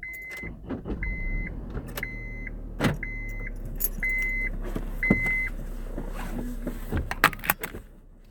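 Inside a car, a steady chime beeps about once a second while keys jangle and click over a low engine rumble, ending with a few sharp clunks.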